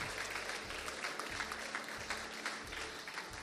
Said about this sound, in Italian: Se sei qui per la prima volta, se non sei qui per la prima volta, se c'è qualcuno, Dio ti benedica, vogliamo darti un applauso. Questa è casa tua.